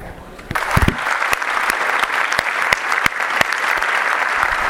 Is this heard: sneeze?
no